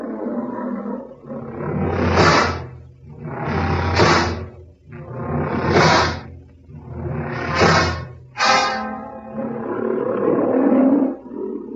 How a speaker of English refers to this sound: That lion. Magnificent, isn't it?